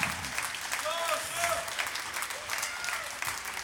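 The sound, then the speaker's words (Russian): Steady audience applause at a charity festival, a dense crackle of many hands clapping that holds at an even level throughout, with faint voices and a few brief tonal calls rising through the noise. “Вот человек, которому надо аплодировать с утра до ночи.”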